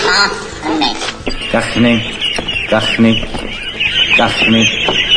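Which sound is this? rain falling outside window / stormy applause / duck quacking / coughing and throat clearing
duck quacking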